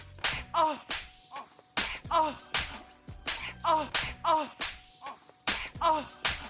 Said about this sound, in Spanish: Hay un video donde ella está cachetando a … por 2 minutos.